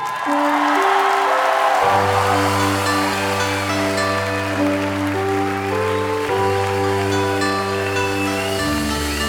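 An audience claps in a steady, dense wash of applause as a young performer is called onto the stage. After about two seconds, sustained music chords with a low bass tone from an accompanying quintet start and carry on beneath the clapping.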